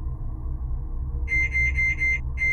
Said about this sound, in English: I heard the beeps of the microwave just as loud and clear as ever.